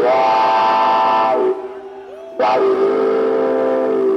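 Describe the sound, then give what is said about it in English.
A pedal steel guitar mimics a train whistle with loud, sustained chordal wails, briefly thinning to a single held note that slides upward before the full whistle-like chord surges back. “if I listen real close to Chuck's pedal steel guitar, I can hear that train whistle blowing right now”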